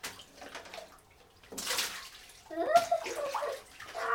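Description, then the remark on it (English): Plastic bath letters plop and splash into bathwater in two short bursts about a second apart, the second followed by soft sloshing and bubbling. “Here, I'll put them in the water for you.”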